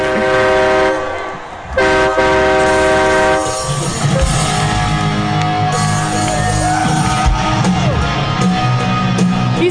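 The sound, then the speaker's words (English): Loud, distorted live rock music recorded on a phone at a concert in Orlando, with sustained droning guitar chords and heavy booming low end, continuous and overdriven throughout, with crowd shouts faintly mixed in. “everything now in concerts is just phones up. Everyone's recording.”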